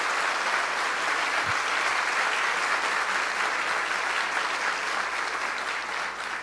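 A church audience applauds for God steadily, a dense wash of many hands clapping at once, sustained and loud for several seconds before easing slightly at the end, with no voices standing out.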